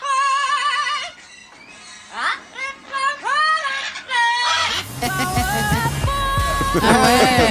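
A parrot sings a pop tune in a shrill, warbling voice with wavering, sliding notes; partway through, loud backing music with a steady beat joins in under the bird.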